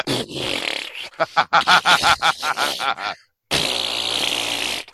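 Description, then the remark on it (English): A voice imitates a bulldog, Matilda, farting all over a bed in a hotel room after being fed about ten chili dog hot dogs: a breathy blast, then a rapid string of wet, sputtering raspberry pulses, a brief silence, and a final long, loud, hissing blow. “just blowing ass everywhere in the bed, in the hotel room.”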